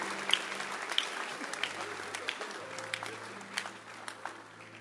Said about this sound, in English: Clap your hands for the military. They are helping us.